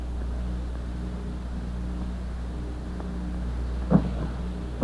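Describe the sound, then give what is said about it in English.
A boat sinking sound effect: a steady, deep churning rumble of water and hull, broken near the end by two sharp creaking knocks, with no voices. “Oh, my lovely boat sinking beneath my feet.”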